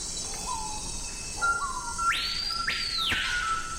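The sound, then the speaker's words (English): A screaming piha in the Amazon cries out with two loud, ringing whistles that sweep sharply upward, preceded by softer, lower whistled notes, all over a steady, high-pitched drone of insects. “Now, that's the colorful cry of the surprisingly drab screaming peahaw.”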